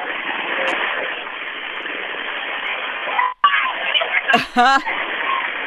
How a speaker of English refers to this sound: Listen to them going by. Those are the cyclists going by. They're minutes away from the finish line.